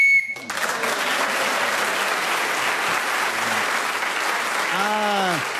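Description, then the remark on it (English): A brief, shrill game show whistle blast opens, quickly swallowed by steady, sustained applause from an audience that continues to the end, with a short voiced exclamation rising near the close. “who was speaking then as the whistle, Wendy?”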